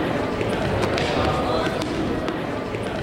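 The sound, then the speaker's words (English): Dodgeballs thump, slap and bounce in quick, irregular hits during a dodgeball game, against a constant wash of crowd noise and overlapping voices. “Once the dodgeballs start flying, it's a relentless assault of thumps, slaps, and bounces.”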